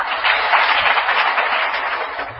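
A crowd applauds steadily, a dense, sustained wash of many hands clapping together, with no voices heard over it; an audience at a spiritual discourse.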